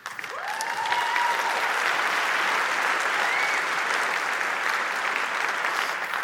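Sustained audience applause, a dense steady patter of many hands clapping at a constant loudness for several seconds, with no voices standing out above it.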